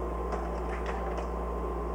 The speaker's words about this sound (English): That's the refrigerator.